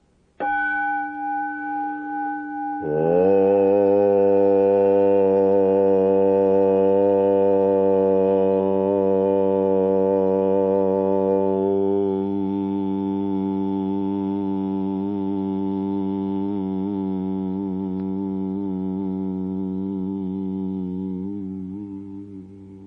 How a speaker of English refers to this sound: Take the tone from the gong and hum it with me.